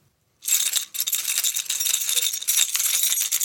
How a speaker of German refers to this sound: Zur Beschreibung, er hält einen kleinen Schlüsselbund in der Hand und klimpert mit den Schlüsseln.